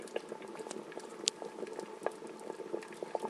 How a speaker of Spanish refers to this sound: A partir de aquí, veis que todavía está hirviendo con ánimo.